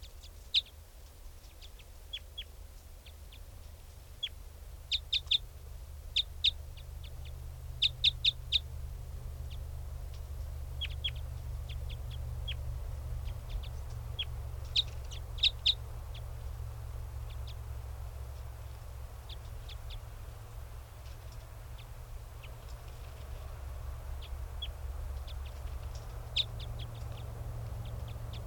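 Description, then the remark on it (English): A wild bird calls in short, high-pitched chirps that come in scattered clusters over half a minute, set against a constant low droning hum. “Wild bird.”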